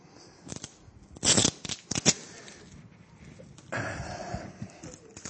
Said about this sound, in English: Okay, so I'm going to open this. See what's inside. Nice wrapping paper.